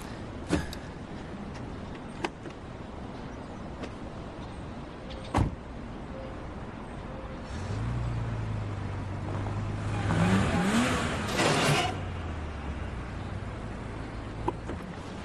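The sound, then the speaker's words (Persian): A few sharp clicks and thumps like a car door and handle, then an engine turns over and hums low, revving up briefly before settling into a steady idle as the car pulls away. “داداش تو ماشینم دارم میام.”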